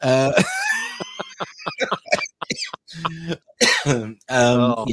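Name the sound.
coughing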